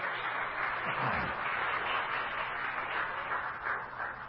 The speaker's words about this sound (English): Say amen. Everybody clap your hands for the Lord.